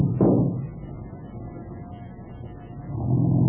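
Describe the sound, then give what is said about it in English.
A small car's engine rumbles steadily, with a brief thump near the start, then swells louder toward the end as it revs up. No one speaks. “Where'd you get this little bus?”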